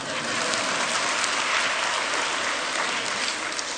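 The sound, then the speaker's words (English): A crowd claps steadily in a dense, continuous wash of applause that stays loud and even throughout, with no voices standing out above it. “And to that, I think you owe me a round of applause.”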